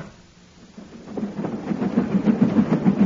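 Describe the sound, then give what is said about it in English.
A moving train rumbles and clatters on its rails, with a steady, rapid rhythm of low clacks that swells from quiet to fairly loud over a few seconds, with no voices. “Stop the train.”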